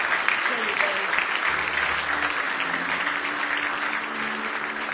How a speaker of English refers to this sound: Now give the Lord another big hand clap of praise if you love him tonight.